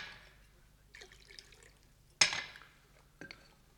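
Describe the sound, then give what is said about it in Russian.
Water trickles softly into a glass in short bursts, with a sharp clink of glass partway through and a quieter knock near the end, all fairly faint and with no talking. “Выпейте воды.”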